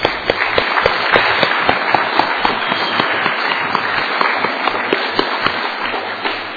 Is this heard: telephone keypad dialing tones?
no